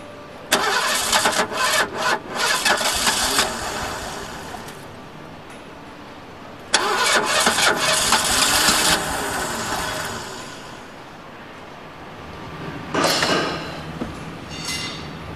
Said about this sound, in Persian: میدونی یعنی چی؟ یعنی این ماشین عمر خودشو کرده و دیگه نمیخواد روشن شه.